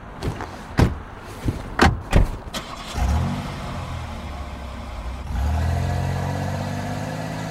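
Several solid car door thumps land in quick succession outside a bar, then an engine starts and idles with a low rumble before revving louder as the car pulls away and drives down Lyle Avenue. No one speaks.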